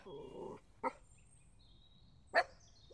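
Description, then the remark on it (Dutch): Two small dogs barking as they come walking up: a drawn-out, whiny yelp followed by two short, sharp, high-pitched barks spaced well apart. Moderately loud over a low background hum, with no talking. “Kijk, er komen twee hondjes aangelopen.”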